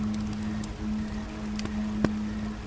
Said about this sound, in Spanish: Y el sonido de una corriente de agua también se manifiesta en tu atención auditiva. Parece ser que algún río cercano debe pasar por aquí.